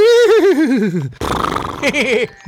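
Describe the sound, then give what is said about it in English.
A horse whinnies loudly, a shrill quavering call sliding downward, followed by a breathy snort and a shorter trembling neigh. “I'm the old horse. Back in the day, I used to pull the plow.”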